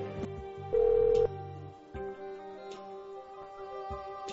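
A telephone rings with steady electronic tones, opening with a brief louder burst and then continuing as a sustained, pulsing ring. It is clear, with no one speaking.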